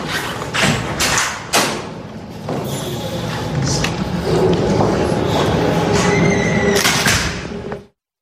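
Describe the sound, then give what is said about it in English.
A governor's door slams shut with a few heavy, echoing thuds in quick succession, set against a steady wash of background noise and faint murmuring voices. “That's literally the governor's door being slammed”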